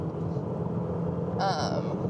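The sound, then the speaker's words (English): Loud, steady low rumble of a car driving in traffic, heard from inside the cabin, with a brief hissing whoosh partway through. “My car sounds loud, but I swear, I'm not, like, speeding.”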